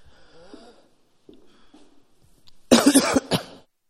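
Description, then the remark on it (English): During a pause in a spoken prayer, a person clears their throat with a few soft rasping rumbles, then breaks into a loud, harsh burst of coughing, a couple of quick hacks ending abruptly. “Lord Jesus, by your Spirit, excuse me, I'm going to turn off just for a second to clear my throat.”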